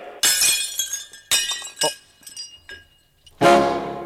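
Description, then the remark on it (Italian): Drinking glasses fall, crash and shatter: a loud initial smash, a second break, scattered tinkling shards, then another sharp crash near the end. “Sono caduti, mi sono rotti i bicchieri, mi dispiace.”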